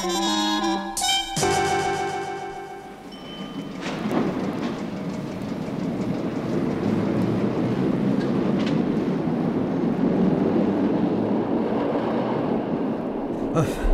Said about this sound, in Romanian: E prima oară în anul ăsta când găsesc și eu un loc liber în metro.